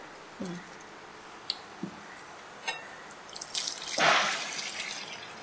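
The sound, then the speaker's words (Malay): A few scattered drips and light clinks, then a steady splashing hiss of cooking oil being poured for the last second and a half, with no voices. “Jadi kita tuang minyaknya.”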